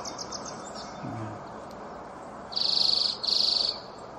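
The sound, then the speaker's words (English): A songbird, recorded at a house, sings two fast, high-pitched trills back to back, each a rapid buzzy run of notes lasting about half a second, over a steady outdoor background hiss. No one speaks. “But that fast trill there, you know, and it's repeated.”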